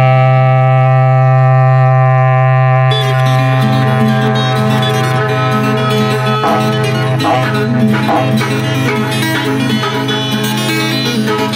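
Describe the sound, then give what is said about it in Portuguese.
A berrante cattle horn blows one long, loud, steady low note rich in overtones; after about three seconds a busier layer of clattering, music-like sound joins beneath it. “Toca o berrante novo aí, seu moço.”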